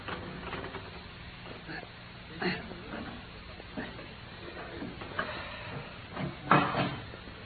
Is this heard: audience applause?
no